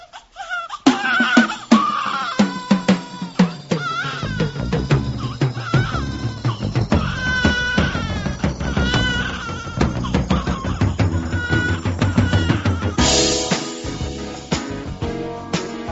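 A newborn baby girl cries in repeated wailing bursts, mixed into steady, full music with a thumping beat that plays throughout.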